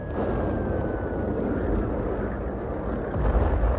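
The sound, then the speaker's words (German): A continuous, muffled roar of bomb explosions mixed with flak anti-aircraft fire during an air raid on Worms, dense, deep and rumbling, swelling into a heavier burst near the end, with no voices. “Bald darauf wurde das Aufflammen am Boden stärker und in das andauernde Abwehrfeuer der Flak mischten sich die dumpferen Explosionen der Bomben.”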